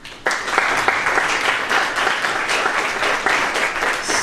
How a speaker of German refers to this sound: Sogar mit Applaus zum Start.